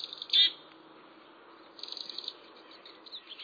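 Pine siskins chatter at a thistle feeder, a steady mix of high, buzzy twitters and wheezy notes that swell in short bursts, moderately faint, with no one talking.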